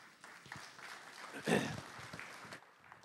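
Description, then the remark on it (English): An evening audience claps steadily for about three seconds to welcome a speaker, a dense crackling wash of hands that swells briefly midway before settling, with a few faint voices mixed in. “Okay, so y'all clap more at night than you do in the mornings.”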